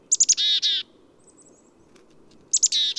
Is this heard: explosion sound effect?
no